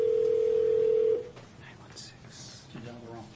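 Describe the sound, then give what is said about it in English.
A single loud, steady telephone keypad tone from dialing a phone number holds for about a second, then cuts off, leaving faint background noise and soft, indistinct voice-like sounds. “Did you dial the wrong person? No, six. No, I dialed.”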